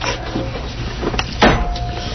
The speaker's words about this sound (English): I hear them carrying chairs in for Theater Suburbia